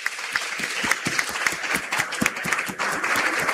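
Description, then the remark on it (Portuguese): A crowd of people under 60 applauds steadily, many hands clapping at once in a dense, continuous patter with sharper individual claps standing out, loud throughout. “Quem tem menos de 60, palmas.”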